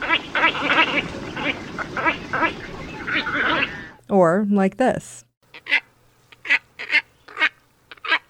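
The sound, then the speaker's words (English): A person talks, then a large heron-sized wading bird with a big, long, down-curved bill and glossy, iridescent-looking plumage calls: one drawn-out, wavering croak followed by a steady series of short, nasal, grunting calls, fairly loud. “You know, it's a heron-sized bird, and it's got a big, long, down-curved bill.”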